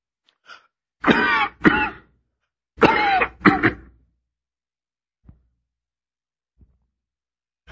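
A man coughs and clears his throat while preaching, in two quick bursts of harsh hacking, followed by quiet with a few faint soft knocks. Nobody speaks.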